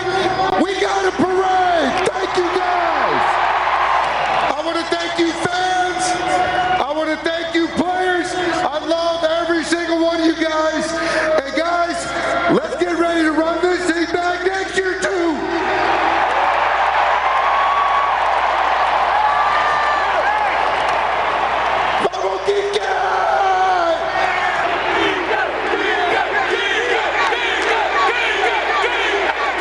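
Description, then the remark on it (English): A huge sellout crowd at Dodger Stadium cheers and roars nonstop for half a minute at the Dodgers victory rally, loud and dense, with shouted whoops, scattered clapping and an amplified voice rising through the din as manager Dave Roberts introduces the players. “The players all spoke before a sellout crowd at Dodger Stadium.”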